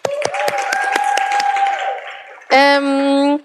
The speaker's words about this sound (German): Und ihr könnt schon mal einen fetten Applaus für die geben.